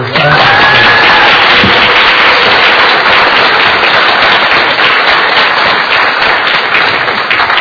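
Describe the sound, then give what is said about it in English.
A large audience breaks into sustained applause for their elders: a dense, steady wash of many hands clapping at once that stays loud and even for several seconds. “So I would like to ask you to thank them, some of you, but I'd like to ask you if you would join me in clapping and applauding your elders.”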